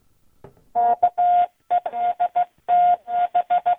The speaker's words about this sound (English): It sounded like Morse code. That's what it was. That was my call letters in Morse code.